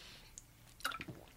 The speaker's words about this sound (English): I'm just going to take a little drink of water here because I need it.